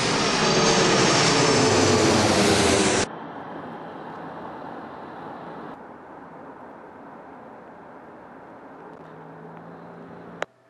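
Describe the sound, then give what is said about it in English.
A loud jet engine of a plane to Dubai roars for about three seconds, then drops abruptly to a steady, quieter hum for the rest. No one speaks. “I'm not going to Dubai in this tiny elevator, but I'm going to the taxi to take me to plane to Dubai.”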